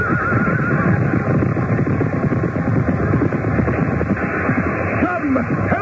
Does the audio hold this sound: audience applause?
no